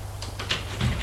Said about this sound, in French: La porte s'ouvre et voit apparaître sa mère.